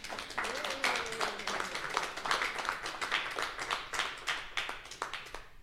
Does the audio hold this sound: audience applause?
yes